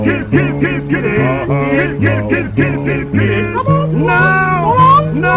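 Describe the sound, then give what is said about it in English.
A cat meows over and over in quick, loud succession, each cry rising and falling, with a steady low droning tone running underneath throughout. “Someday she'll lose her pussy cat if she keeps up that game.”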